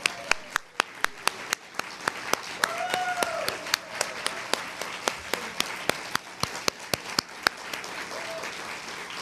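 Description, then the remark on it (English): An audience at an IITA summit applauds the event's sponsors as they stand up, many hands clapping steadily in a dense patter with sharp individual claps standing out, plus a faint murmur of voices beneath. “So we would like to have the sponsors stand up so we can give them a round of applause for supporting IITA and our mission.”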